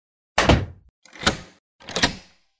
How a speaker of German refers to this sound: Ehe die Kinder sich versahen, war die Tür der Abstellkammer zu und verriegelt.